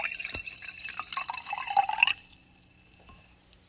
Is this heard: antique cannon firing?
no